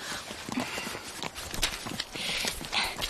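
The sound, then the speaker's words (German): Horses' hooves, including those of a calm cold-blood horse, clip-clop steadily along a bridle path in a forest during an orienteering ride, several overlapping footfalls in an uneven walking rhythm, moderately loud with rustling outdoor noise around them. “die Hinterhufe unserer Pferde sind doch fast noch auf der Wiese.”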